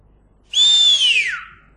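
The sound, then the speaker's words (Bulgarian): A single loud, clear whistled note made by robbers mimicking a bird call, that starts high and glides slowly downward for under a second, with no talking around it. “Какво е това? Ами че това не са никакви птици. Разбойници.”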